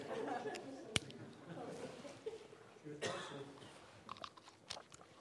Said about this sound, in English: In case you haven't noticed it, I'm a gum chewer. I have to chew gum when I'm preaching because of all the different medications I take, my throat gets dried out really fast.